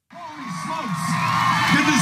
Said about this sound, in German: empfängt ihn eine jubelnde Menge. So auch am Samstag in Denton, Texas.